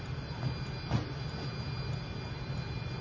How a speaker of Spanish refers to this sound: El tranvía se va.